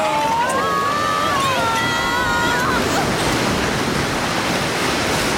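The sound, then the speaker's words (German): A large ocean wave crashes over a small boat at sea in a loud, sustained rush of churning water, roaring steadily for several seconds, with a high wavering wail heard over it near the start. “Die große Welle ist in den Kahn geschwappt.”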